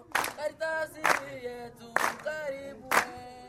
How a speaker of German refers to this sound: Wir stehen in einer Lichtung mitten im Bergwald im Ostkongo. 64 Knaben stehen im Kreis, klatschen rhythmisch in die Hände und singen. In der Mitte ein 15-jähriger Knabe, er ist der Vorsänger. Er hat eine schöne Stimme, große Augen